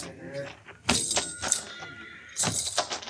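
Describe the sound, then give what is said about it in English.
A horse whinnies in two loud, rough bursts amid shuffling and scraping movement as a bloodied rider is helped down off it, with faint indistinct voices in the background. “They're having to help him get down off his horse.”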